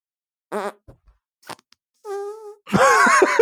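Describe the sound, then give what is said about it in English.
Wet raspberry sounds of lips blown against the bare skin of a forearm, a forearm fart: a short buzzy burst, a few faint sputters, then a drawn-out tonal one and a loud, flapping final blast. “How are you better at doing an armpit fart than just blowing on your arm?”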